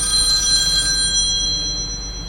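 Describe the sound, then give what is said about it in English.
A hotline telephone rings with a steady, high electronic trill, fairly loud, lasting a couple of seconds with no talking, easing off slightly toward the end. “Got the hotline ringing.”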